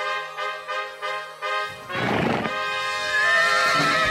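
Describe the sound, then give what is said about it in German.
A horse neighs loudly as a rider climbs onto it, a long quavering whinny with rapid pulsing rises, then breaks into a rough, breathy snort before trailing off. No one speaks. “Irgendwie gelange ich auf das Pferd.”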